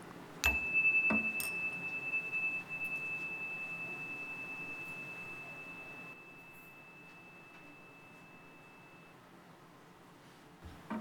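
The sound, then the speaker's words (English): A single meditation chime is struck to mark a time of silence, leaving a clear, high, pure ringing tone that holds steady for about eight seconds before fading out over a faint low background hum. “This time of silence will begin and end with a chime.”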